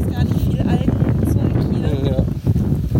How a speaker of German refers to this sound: Ja, und wie ihr hört, hier wird es sehr windig auf der Seebrücke. Ich bin jetzt echt froh über den Windbreaker.